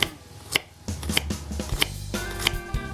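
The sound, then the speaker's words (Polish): A knife chops peeled garlic cloves on a cutting board in sharp, evenly spaced strikes, about one every half second, over a steady low background hum. “Gdy cebula wylądowała już na patelni, bierzemy się za obieranie i krojenie czosnku.”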